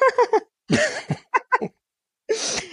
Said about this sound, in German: Ich habe hier übrigens eine Mute-Taste gefunden fürs Husten. Ich habe die letzte Stunde gehustet, wie bescheuert.